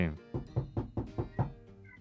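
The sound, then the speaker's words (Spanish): Six evenly spaced, fairly loud knocks on the door of an old abandoned house, imitated as a sound effect in a quick steady rhythm, followed by a brief quiet tail. “Vale, bueno, pues picamos a la puerta.”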